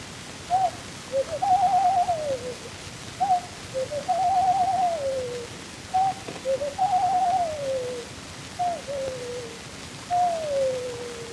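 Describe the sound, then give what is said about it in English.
A ring dove calls alone, repeating four soft, hooting coo phrases. Each has a short note and then a longer, falling one, with steady pauses between, against a faint background hiss. “The dominant note in nearly all bird voices is joyous, but there is one notable exception, the ring dove.”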